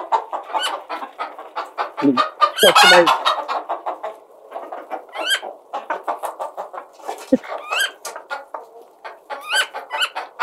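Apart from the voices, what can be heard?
hens clucking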